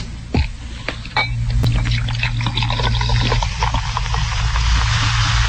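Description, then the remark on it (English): Soda is poured into a glass and fizzes steadily, a continuous hiss of bubbles with a few small pops and a low hum underneath, lasting several seconds. “That KFWB Channel 98 sounds so good, I kind of wish you'd pour me some.”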